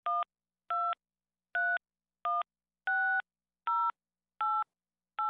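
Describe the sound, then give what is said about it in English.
Eight short telephone keypad tones beep one after another at a steady, slightly uneven pace as a telephone number is punched in on a call to Global Bank's automated line, each a clear two-note electronic chirp with silence between and no voices. “To assist you with your call, please enter your telephone number.”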